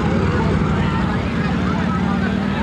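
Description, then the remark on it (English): Four police motor scooters arrive on a Washington highway where traffic has stopped for demonstrators, a steady, loud buzzing engine drone filling the whole stretch, with indistinct voices mixed into the noisy background. “And here come the police. One, two, three, four police on motor scooters.”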